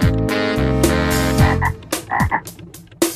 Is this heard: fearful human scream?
no